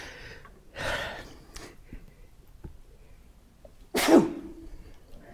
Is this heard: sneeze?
yes